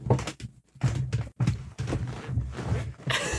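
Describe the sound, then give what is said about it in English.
A creaky chair groans and knocks, a run of irregular low creaks and woody thumps with brief pauses between them, no voices. “My chair. My creaky chair.”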